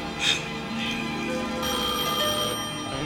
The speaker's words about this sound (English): answer that phone. She gotta be there.